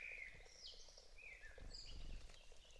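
Several spring birds sing in overlapping whistled phrases and sweeping chirps, fairly faint and echoing in a small forest, over a steady low outdoor rumble with no voices.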